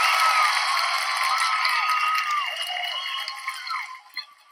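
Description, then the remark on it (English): Audience applause for the speaker's fellow theater actors and collaborators: a dense wash of clapping with rising whoops and cheers on top, steady and loud at first, then thinning out and fading toward the end. “And that's also an applause for those who have acted with me, who have performed with me, who have collaborated with me.”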